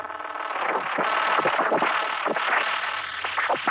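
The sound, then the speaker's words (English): An explosion in an observatory, rendered as a loud, sustained roar full of rapid sharp cracks and bursts that keep churning for several seconds without easing off, with no voices. “After the explosion, the darkness descended again, and there was silence.”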